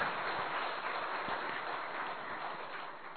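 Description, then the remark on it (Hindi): An audience at Gyan Sarovar claps steadily throughout, a dense, even wash of many hands applauding at moderate volume with no voices standing out. “दीदी को निश्चिंत करें तो ताली बजा के दीदी को हम निश्चिंत करते हैं।”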